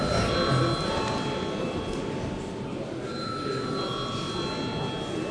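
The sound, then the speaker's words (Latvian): The chamber bell of the Saeima parliament rings before a vote on granting urgency to a bill, continuously, a steady, bright electric tone with ringing overtones that barely changes for the whole stretch, over a low murmur of voices and shuffling. “Lūdzu zvanu.”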